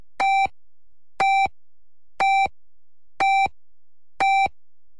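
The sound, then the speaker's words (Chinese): A radio hourly time signal for 10 pm Beijing time: five identical electronic beeps sound at a steady one-second interval, each a short bright tone rich in harmonics, with silence between them and no voices. “十点 正点报时系由英德宝晶宫天鹅湖度假酒店、交通银行广东省分行联合特约播出。”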